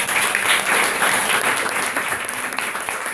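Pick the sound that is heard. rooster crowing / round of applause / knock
round of applause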